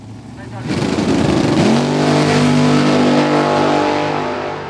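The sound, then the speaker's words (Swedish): A drag racing car engine roars up abruptly and holds a loud, steady, rumbling drone with strong low harmonics, rising slightly in pitch before easing off, while a voice talks over it. “I depån samlas gamla Volvo PV med 9 meter långa bestar av rör och gummi.”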